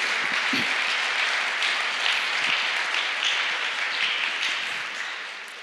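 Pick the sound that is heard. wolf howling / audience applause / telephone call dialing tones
audience applause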